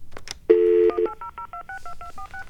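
A telephone keypad dials a 1-800 number quickly, with about ten short, crisp two-tone beeps in a rapid steady rhythm, right after a brief sustained tone. Clear, with no talking.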